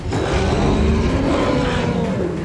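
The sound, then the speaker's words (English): A long, deep mooing roar from the Bokhov, a beast with cow legs and a long tail, drones on continuously, loud, with a low rumbling bellow and a throaty, growling texture that holds steady without a break. “The beast gave one more long moo roar.”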